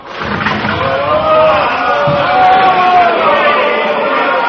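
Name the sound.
crowd shouting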